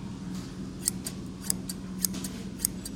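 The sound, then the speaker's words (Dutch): A pair of vintage scissors made in 1964 snips open and shut several times in a steady rhythm, each cut a crisp metallic click over a low background hum. “Dit is 1964, deze schaar.”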